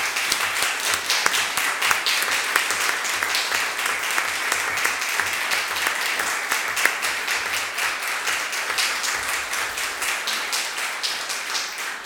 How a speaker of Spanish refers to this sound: Gracias a que aplaudió, porque si no, no iba a poder seguir, ¿eh?